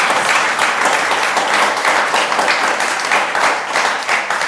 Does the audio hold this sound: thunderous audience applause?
yes